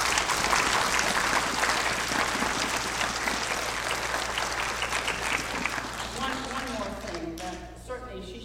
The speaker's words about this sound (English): Let's give her a hot applause.